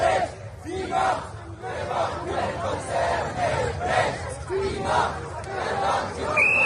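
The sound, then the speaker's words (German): Several hundred demonstrators on Paradeplatz in Zurich, protesting the takeover of Credit Suisse by UBS, chant and shout together in rhythmic bursts, voices rising and falling at a steady loud level over a constant low rumble, with a few higher calls cutting through. “Mehrere hundert Personen haben auf dem Paradeplatz in Zürich demonstriert.”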